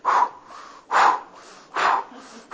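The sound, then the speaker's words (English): Loud, exaggerated breaths in a steady rhythm as a person does some breathing before starting exercises, forceful rushes of air about once a second with softer breathy noise between them, with no talking. “So I get up in the morning, I do a little breathing first, and I start the exercise, right?”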